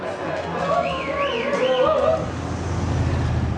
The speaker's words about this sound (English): Later, Ed's truck continues left at a fork in the road.